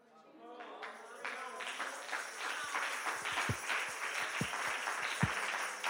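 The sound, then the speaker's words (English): A crowd breaks into applause after a brief voice at the start, with everybody on one side of the room clapping, the clapping quickly swelling into a dense, steady patter mixed with scattered low thumps and faint voices. “Everybody over here is clapping.”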